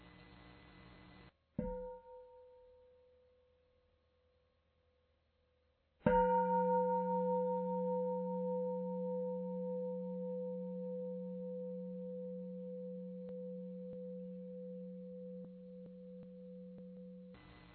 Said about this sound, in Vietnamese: Mình nghe tiếng chuông đó ha, ban chị ngồi yên lại, mình thở vào, mà mình thở vào, mình cảm nhận được những cái lo âu, mệt mỏi mình. Rồi khi mà tiếng chuông ngân vừa hết á, mình thở cái đó ra, thì cái đó mình được buông thư.